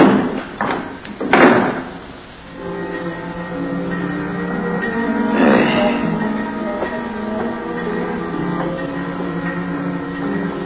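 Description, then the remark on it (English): A morgue compartment door marked 12 bangs shut with two quick, heavy thuds after a sliding slab is pushed in, then a softer clunk follows a few seconds later as the knob that holds it shut is turned, all over a steady, droning hum. “And unhurriedly, he pushed the sliding slab into the compartment and closed the door marked 12. and turned the knob that held it shut.”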